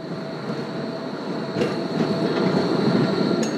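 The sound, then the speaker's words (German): A tram in northern Berlin, where the line turns, rolls steadily along its rails with a continuous rumble and a thin metallic whine, occasional clacks over the track joints, growing slightly louder toward the end. No one speaks. “Wo die Straßenbahn wendet, wo sich die Stadt in Autohäusern und Kleingärten verliert, im Norden Berlins”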